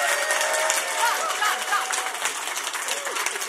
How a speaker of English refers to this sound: So I don't know if you were being sarcastic, but that level of applause is what we're looking for. So if we can keep it up,